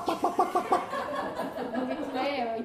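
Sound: voice imitating chickens clucking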